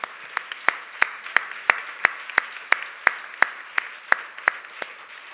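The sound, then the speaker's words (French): Steady clapping for the speakers, with sharp, distinct claps at a brisk, fairly even pace over a soft background of scattered applause, sounding somewhat thin, with no talking. “J'entends qu'on applaudit à côté, on les entend, alors j'aimerais qu'on fasse encore plus de bruit et qu'on applaudit nos intervenants.”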